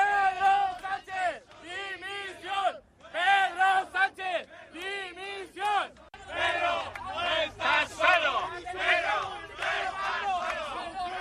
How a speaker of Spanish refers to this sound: Abucheos a Pedro Sánchez en Valencia y también vitoreado por sus incondicionales.